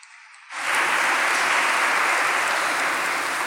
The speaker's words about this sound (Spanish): Vamos a recibirlos con un aplauso a ellos dos.